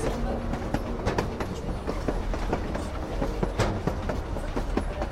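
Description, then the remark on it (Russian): A train rumbles steadily along the rails, its wheels clattering in a continuous, uneven rhythm of sharp clicks over a low, constant roar, with no one speaking. “Тихо-тихо в полях после грохота поезда.”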